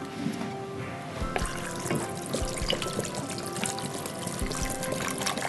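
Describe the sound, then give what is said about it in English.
Water pours steadily into a cooking pot holding tomato paste and a little vegetable oil, a continuous splashing, gurgling stream with small clinks and knocks, filling for several seconds with no talking. “We add water to this.”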